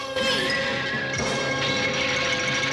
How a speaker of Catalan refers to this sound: Continuen sortint columnes. En Goku les destrueix a cops de bastó.